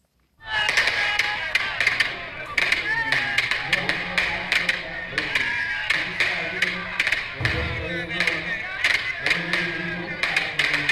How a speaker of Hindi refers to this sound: यह आवाज झारखंड मुक्ति मोर्चा के कार्यकारी अध्यक्ष हेमंत सोरेन की आवाज पर बज रहे पटाखों की है।